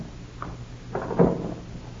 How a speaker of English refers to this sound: Casey, she's unlocked 3 different locks to open that door. Yeah, one of her eccentricities, I guess.